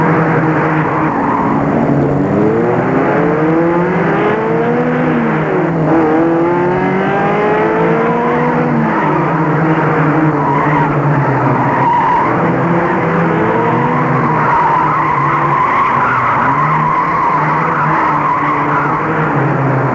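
A car engine roars at high speed, its pitch sweeping up and down as tires squeal and skid. The sound stays loud and close throughout, with no voices.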